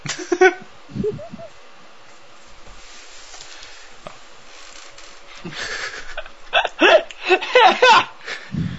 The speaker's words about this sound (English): Oh, that's gross. Fart sounds. Just anuses everywhere.